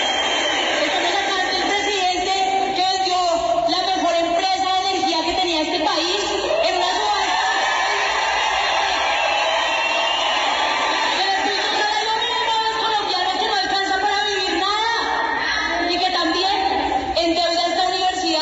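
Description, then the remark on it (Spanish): A loud, restless crowd of first-semester students boos and whistles nonstop after President Santos, speaking about the peace process, is interrupted by a student, with jeers, shouts and piercing whistles rising over a dense wall of voices for the whole stretch. “Sin embargo, cuando el presidente les hablaba sobre el proceso de paz, Santos fue interrumpido por una estudiante quien le recriminó varias decisiones que ha tomado, generando abucheos y silbidos entre los asistentes.”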